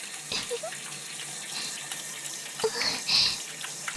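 Shower water runs in a steady, hissing spray for about four seconds, with a few brief louder splashes breaking the flow near the start and toward the end. No one speaks.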